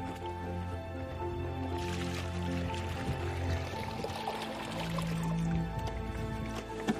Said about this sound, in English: Go ahead and pour it in the bucket